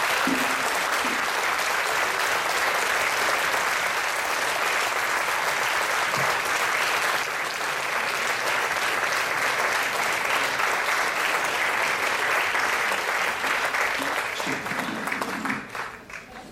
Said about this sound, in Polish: Proszę Państwa, ja z zażenowaniem to odebrałem, bo to przecież prelegentom się należą oklaski, a nie mnie.